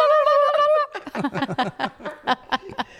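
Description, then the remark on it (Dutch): A turkey gobbles loudly: a short tonal call, then a quick, rattling run of throaty pulses lasting a few seconds, with no other sounds around it. “Daar is een kalkoenen.”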